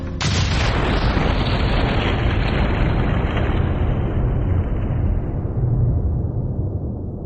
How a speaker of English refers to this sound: The Lusitania, one of the largest passenger liners in the world, is en route from New York to Liverpool when it is struck by a torpedo from a German U-boat.